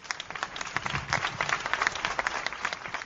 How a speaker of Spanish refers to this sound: Un fuerte aplauso.